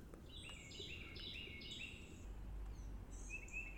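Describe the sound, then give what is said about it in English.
A Carolina wren sings a rapid series of repeated, ringing phrases, bright and clear, in the woods in springtime, against the steady low rumble of a helicopter flying overhead, with no one talking. “Well, there's a Carolina wren belting his heart out right now.”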